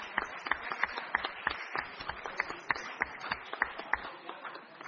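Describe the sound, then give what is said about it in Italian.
A group of people applauding to wish a happy birthday to two council members, a steady patter of many hands clapping with some sharper claps standing out, continuing for several seconds at moderate volume with no talking. “che in questa data compiono gli anni, quindi direi di fare un applauso.”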